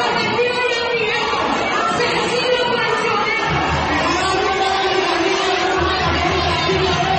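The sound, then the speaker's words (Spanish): A dense crowd shouts and yells insults continuously as the mayor is removed from a meeting for safety, many overlapping voices at a loud, steady level with no pauses, sounding agitated. “por seguridad también fue retirado el alcalde Jorge Iván Ospina entre gritos e insultos”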